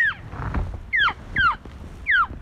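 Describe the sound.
A hunter blows an elk call, trying to coax fleeing elk back in the snow. It sounds four times: short, high-pitched squealing notes that slide downward, spaced about half a second apart over a low, steady rumble of wind.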